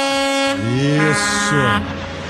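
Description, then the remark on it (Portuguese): A truck driver blares a loud truck air horn in a sustained, harmonically rich blast, its pitch bending and wavering in two swells before cutting off, with road rumble continuing underneath. “Ó, caminhoneiro, ó. Buzina boa, rapaz. Olha aí, ó, de novo.”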